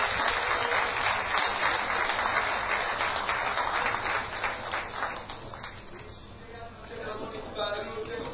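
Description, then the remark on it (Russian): A crowd claps steadily and densely for several seconds for a young man who came from Haifa, a dense patter of many hands, with the applause thinning slightly toward the end as a few voices murmur underneath. “Хлопают этому парню.”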